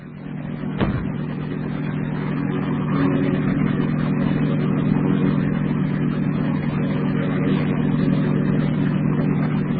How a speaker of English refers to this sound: Old CH-34 helicopter.